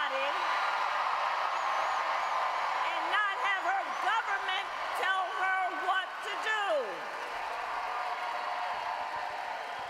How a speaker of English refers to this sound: Sounds like some protesters in the crowd.